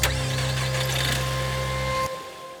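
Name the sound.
car interior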